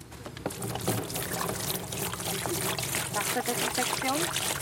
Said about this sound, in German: Mühl streut ein pinkes Pulver in einen großen schwarzen Bottich voller Wasser und steigt hinein.